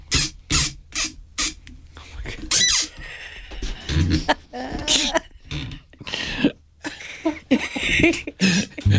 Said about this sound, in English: Damn, that thing's squeaking loud. I know. Why is your microphone squeaking? Squeaky over there.